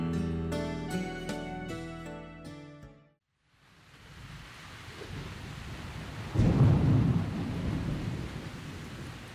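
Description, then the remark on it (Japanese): A few ringing musical notes fade into a brief silence, then heavy rain beats steadily on a roof at night in a violent storm, with a loud roll of thunder swelling partway through and rumbling on beneath the downpour. “屋根をたたく雨の音で瑠璃は目を覚ましました。外は激しい嵐です。”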